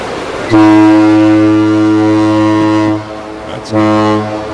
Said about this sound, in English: That's the horn from a freighter and the return call. It's like a mating call in Duluth.